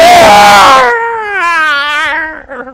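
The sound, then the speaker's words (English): A person imitates a child screaming down a supermarket aisle at Asda: a loud, harsh shriek that breaks into a wavering, high-pitched wail, lasting a few seconds and heard on its own. “You know, the kids, they're like, ah! You know, they come screaming down the aisle.”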